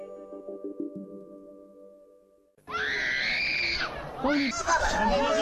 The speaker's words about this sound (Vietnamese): Đó là những âm thanh đã trở thành quen thuộc tại Syria. Tiếng phi cơ không kích gầm rú không ngừng, chen lẫn với tiếng thét tuyệt vọng của những đứa trẻ vô tội.